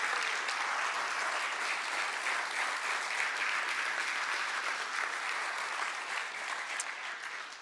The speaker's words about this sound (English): I saw him walk in, retired after 23 years of service to the U.S. Army, and so I thought you'd want to give him a round of applause.